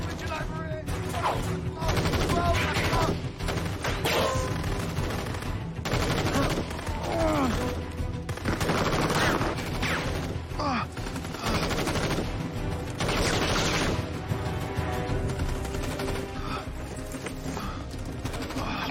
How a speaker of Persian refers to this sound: تکتیر انداز کشته شده ولی هنوز دارن بهمون شلیک میکنن.